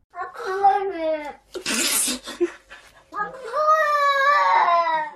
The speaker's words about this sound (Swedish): Den här katten sitter utanför en dörr och vill komma in. Ja. Så här låter det.